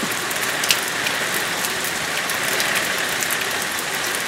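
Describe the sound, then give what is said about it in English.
Steady rain falls continuously on a man in a trench coat, a dense hiss of drops pattering on a surface with scattered sharper ticks, moderately loud, with no voices. “Don Haynes, …'s executive officer and close friend, adjusted his trench coat to prevent the rain from going down the back of his neck.”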